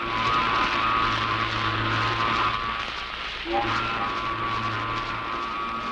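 A ship's horn sounds in long, steady, droning blasts, calling its passengers to board, briefly breaking off midway before sounding again, loud and sustained over a background rumble.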